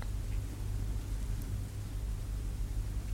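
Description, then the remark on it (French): Steady, even hiss of rain over a deep, constant low rumble, unchanging throughout with no distinct drops standing out and no voices. “T'entends la pluie?”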